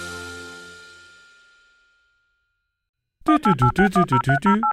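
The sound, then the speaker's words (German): A quick run of about nine short, evenly spaced beeps, like a telephone number being dialed on a keypad, following a fading tone and a moment of silence. “Ich hoffe, er geht ans Telefon.”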